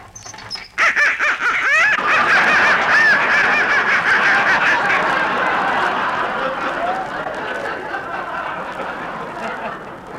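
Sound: ducks quacking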